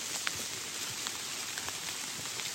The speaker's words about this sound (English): It's raining ever harder here in the woods. I think saying that made it get even harder.